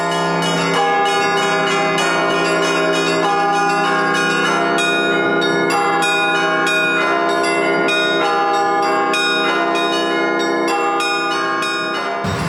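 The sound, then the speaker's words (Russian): Church bells ring loudly and continuously, several bells struck in quick, overlapping peals whose rich metallic tones blend into a dense, sustained clangor with no voices present. “И поэтому такие города, как Ростов, Великий Владимир, там колокола, где были не уничтожены, разрешают их звонить.”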